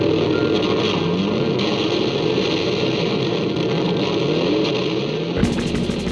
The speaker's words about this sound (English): When I was listening to the song, me and my siblings would like sing along in all of the big parts, and we were just hooked on the way that like the motorbike sound was created by guitars.